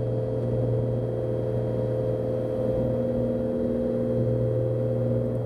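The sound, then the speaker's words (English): The engine of a four-seat Cessna 182 amphibian airplane, on a flight for a view of Lake Champlain, drones steadily, a low, dense hum with layered harmonic tones that holds at an even loudness throughout, with no voices. “the guy piloting this four-seat Cessna 182 amphibian airplane.”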